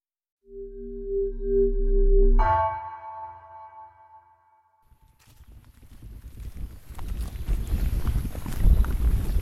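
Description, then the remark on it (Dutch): A bright electronic tone sounds first, then after a short silence comes a steady run of crunching, rustling footsteps of a person walking over rough, uneven terrain outdoors, keeping up with a group heading toward a spot where tigers are often found, growing louder. “Ik moet ook tegelijkertijd doorlopen, want ik wil de anderen niet uit het oog verliezen. Een beetje geaccidenteerd terrein.”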